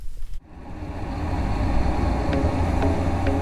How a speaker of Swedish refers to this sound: Och så ska vi spela upp en simulerad trafikmiljö som är ganska starkt ljud. Ligger mellan 75 och 80 decibel.